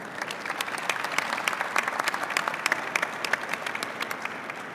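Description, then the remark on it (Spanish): A crowd applauds to welcome a discussion panel, steady dense overlapping claps forming a continuous crackling wash with sharp individual hand claps popping out, holding an even moderate loudness throughout without anyone speaking. “Recibamos a nuestro distinguido panel con un fuerte aplauso.”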